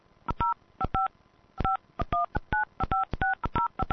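A telephone keypad dials a 10-digit phone number into an automated calling service: a quick series of crisp dual-tone DTMF beeps, some in quick pairs, with a brief pause partway through, clear with no voices.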